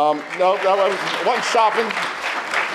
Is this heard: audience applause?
yes